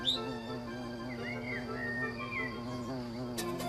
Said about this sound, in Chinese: 一只蜜蜂飞过来，把毛尔东的嘴角当成了一朵花儿，采起蜜来